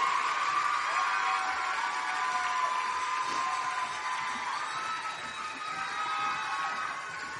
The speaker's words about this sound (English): Thank you. And keep the applause going for that group. 31 through 40. Come on, make some noise.